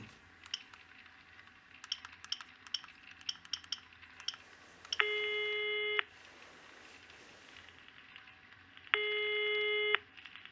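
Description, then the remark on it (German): A phone call to the police headquarters, the Kriminalpolizei Reutlingen in Germany, rings out: two steady, buzzy ringback tones about a second each, several seconds apart, preceded by a quick run of soft clicks like a number being dialed. “Zuerst rufe ich jetzt im Präsidium an und ersuche Unterstützung.”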